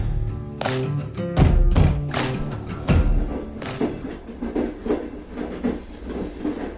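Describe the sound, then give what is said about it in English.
A train clatters along steel rails with a steady, heavy rattle, punctuated by loud rhythmic thumps and metallic clanks, continuous with no voices. “The relentless shake and rattle of steel on steel pulled me deeper into a canyon where the only light flickered from the moon's outline in the sky, behind which heaven shone.”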